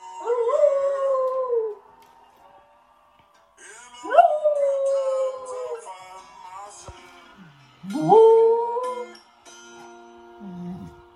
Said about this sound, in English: That's a dog shifting pitch in response to a song. It's not uncommon to see a dog howling along to music, but are they just making a noise or actually singing?